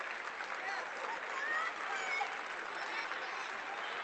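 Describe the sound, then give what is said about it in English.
At a basketball game, a player at midcourt begins clapping to fire up the team; steady, dense clapping fills all four seconds at an even loudness, many hands blending into a continuous applause texture, with a few faint high whoops from the crowd mixed in. “stands at midcourt and begins to clap.”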